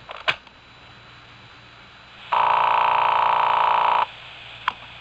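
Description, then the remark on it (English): A single long, buzzing telephone ring from a phone call recorded on a telephone answering tape, lasting nearly two seconds, loud and steady, with faint line hiss around it and a couple of sharp clicks before and after, like a handset being handled. “I've kept a tape recording of every phone call”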